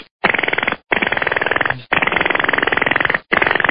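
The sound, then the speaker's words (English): A voice imitates a jackhammer with four loud bursts of fast, buzzing, rattling pulses, each lasting about a second, separated by short pauses. “How about a jackhammer? You know how a jackhammer sounds?”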